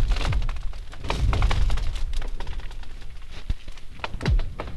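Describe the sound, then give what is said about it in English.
Lake ice booming and cracking from the extreme temperature change between cold nights and warm days, with repeated deep thuds, sharp snaps and a couple of descending, whooshing zings, loud and continuous with no voices. “cold nights and warm days and the temperature change is pretty extreme, that, you know, as the sun is coming up or going down, it's like it's just constantly going on, this booming and cracking.”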